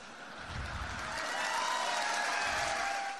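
Police officers standing behind President Trump at Suffolk Community College applauding, a dense, steady patter of clapping that holds at an even, moderate level for a few seconds with no voices on top.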